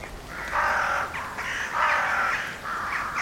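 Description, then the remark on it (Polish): Loud, harsh cawing from several crows overlaps in repeated bursts, a raucous flock calling as it flies east over a highway, with barely a pause between the calls. “Nad gościńcem leciały stada wron, kracząc donośnie.”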